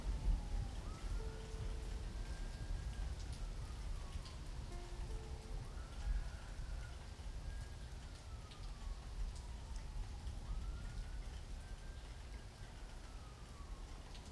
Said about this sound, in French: Les orages s'éclaircissent et c'est la fin de la mousson.